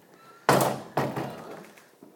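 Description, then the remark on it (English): Two heavy wooden thunks of a door being handled, about half a second apart, loud, each with a short ringing decay, followed by faint rattling and no voices. “Can they actually bolt this? No, they can't bolt it. I was thinking they might be able to actually bolt the door.”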